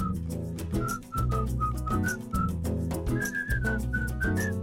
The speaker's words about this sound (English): So I thought it'd be cool to write a hook that is the whistle, and within the hook, within the whistling parts, we write verses.